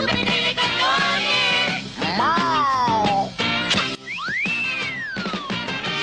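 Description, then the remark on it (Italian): A loud, busy opening theme jingle plays on its own, with dense layered instruments and bright sliding swoops rising and falling like whistles over roughly six seconds. “Via la sigla.”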